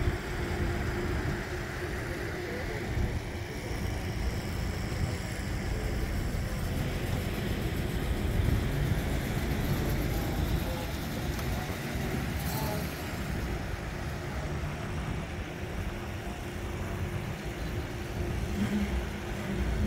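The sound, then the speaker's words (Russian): The engine of a 1929 Revo Flying Cloud car, unrestored and in its original condition, runs steadily for the whole stretch, a continuous low, throaty rumble with only slight swells in intensity and no voices. “этот шикарный Revo Flying Cloud 29 года.”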